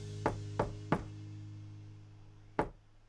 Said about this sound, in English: Now at Marina's, they knock on the door.